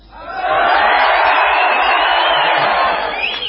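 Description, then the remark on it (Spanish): The lower section of an audience shouts together on cue, a loud, sustained roar of many voices that swells quickly, holds for about three seconds, then tapers off. “Vamos a gritar, nada, así nada más. Los primeros los de abajo.”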